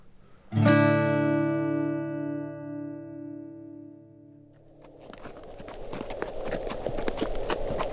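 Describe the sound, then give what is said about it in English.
A sustained ringing chime fades out, then a ridden horse's hooves start clip-clopping steadily on hard ground on a prairie, a brisk rhythm of many hoofbeats continuing to the end, with no voices. “Archer Spann pulled up his horse and pointed out across the rolling gray prairie.”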